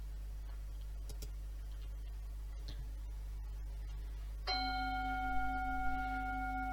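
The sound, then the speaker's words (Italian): A single meditation bell is struck clearly to start a short meditation session, after a few seconds of quiet room hum and faint ticks, then rings on with a long, steady, shimmering sustain until the end. “Se non consideriamo quella iniziale, comunque sia la seconda campana e quella del quarto d'ora.”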